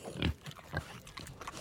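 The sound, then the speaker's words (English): A hungry pig grunts and snuffles while eating from a big open rubbish dump, a few short low grunts mixed with chewing-like smacks, steady and moderately loud with no talking. “A hungry pig had a nibble”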